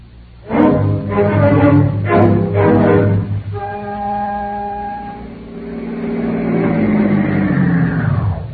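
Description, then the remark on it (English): A motorcycle engine revs hard in several loud bursts, then holds a steady hum before rising again as it pulls away. No one speaks. “I'm going to take my motorcycle and meet it when it gets there.”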